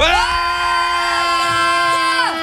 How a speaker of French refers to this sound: Quand c'est qu'on gueule. À 3, on va tous crier.